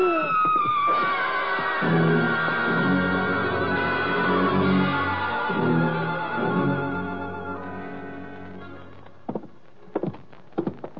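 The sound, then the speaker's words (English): A woman screams loudly at the start, her shrill cry sliding downward in pitch, then a long sustained tonal drone carries on, ending with a few sharp knocks. “That was a woman screaming, Louis.”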